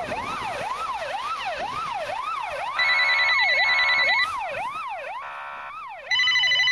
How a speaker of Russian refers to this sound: Ветки деревьев уже больно хлестали по лицу и по спине, а сирены все еще гудели, переходя в знакомый до боли телефонный звонок.